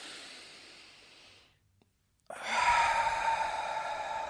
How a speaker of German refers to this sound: Und jetzt atmen wir einfach einmal tief ein und aus.